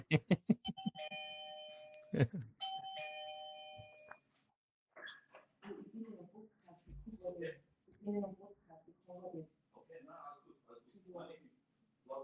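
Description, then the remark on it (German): A doorbell chimes at the start, its bright two-tone melody ringing out twice in quick succession and fairly loud, before it fades and a person begins talking. “Das Postband klingelt.”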